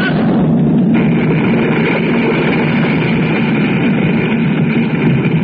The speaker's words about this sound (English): Listen, boys. Those explosions, they're dying down. Guess the worst of it is over, sir.